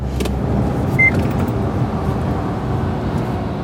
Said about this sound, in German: zieht derweil mit Tempo 90 die A38 entlang. Auf der rechten Spur reiht sich inzwischen LKW an LKW.